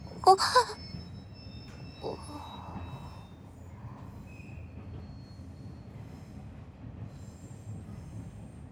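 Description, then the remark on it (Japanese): A train rolls along with a steady low rumble as its wheels let out thin, high-pitched squeals early on, then ease into a quieter, continuous drone as it slows. “列車が減速しています。”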